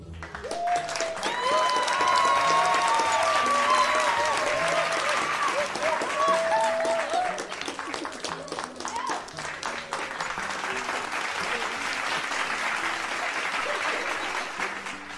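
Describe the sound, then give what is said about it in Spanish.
A crowd applauds loudly and steadily for about fifteen seconds after a flamenco soleá performance, with excited voices cheering over the clapping during the first half before it settles into continuous applause. “¡Un aplauso muy fuerte!”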